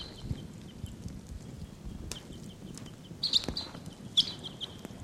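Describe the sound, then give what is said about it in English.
High, sharp calls of wild birds, including the bird numbered 749, ring out in short bursts against a low rumbling background, with a cluster of chirps around the middle and another quick call near the end. “Wild birds are calling. I think they may take off.”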